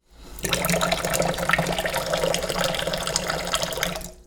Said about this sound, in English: Running water in the sink.